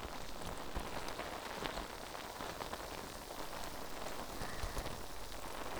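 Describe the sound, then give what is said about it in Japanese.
Foam bubbles fizz and crackle right by the ear during a wash and massage, a steady dense hiss of tiny popping bursts that carries on without pause and with no voice over it. “泡が耳元でシュワシュワする音、お好きですか？”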